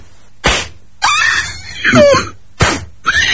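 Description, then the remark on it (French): Two sharp, loud slaps of a hand striking a person ring out like applause, each followed by a strained vocal cry or yelp, with a quiet background. “Tu peux éviter de hurler quand je te frappe parce que les gens n'entendent pas que ça fait le même bruit que quand j'applaudis.”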